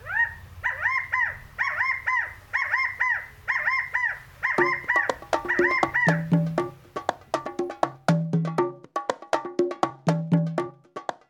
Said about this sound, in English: It's a rally cry, like the little California quails are yelling, "In unity, we triumph!" Or maybe they just really like Chicago.